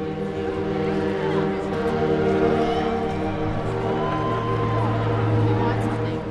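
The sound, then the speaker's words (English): A deep, blaring foghorn on Vancouver's waterfront sounds the first four notes of O Canada, played across downtown each time Canada wins an Olympic medal, in long, sustained low tones, with a steady murmur of crowd and city noise underneath. “Just listen to the jaunty tune played by the foghorn on the city's waterfront.”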